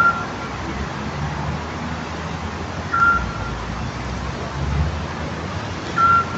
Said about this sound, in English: I know some people might think that sounds like a truck backing up very slowly. That's a Scops owl, to be precise.